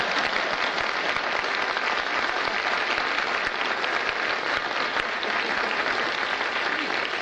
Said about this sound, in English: Where do you think I got my five children? Out front, applauding like mad.